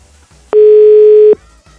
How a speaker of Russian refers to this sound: Номер занят.